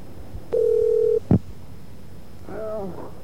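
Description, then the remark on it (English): A steady telephone tone holds briefly, then a short sharp click or beep of a number being dialed, followed by faint muffled line noise, fairly clear with no talking. “Who are you calling and where?”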